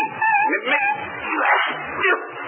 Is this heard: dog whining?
yes